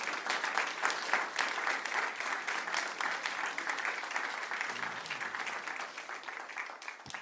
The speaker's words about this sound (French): Est-ce qu'on peut les applaudir encore?